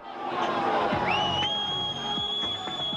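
A loud, dense din of an angry crowd, mostly young people, shouting together outside police headquarters in Palermo as officers escort Provenzano into the building, with a piercing high whistle that rises and then holds steady over the noise for the last two seconds.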